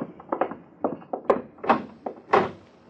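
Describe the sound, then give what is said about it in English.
A door is handled and opened, with a run of close, solid thuds and clunks building to a few heavier knocks near the end. No one speaks. “Door on the opposite wall. Shut. However.”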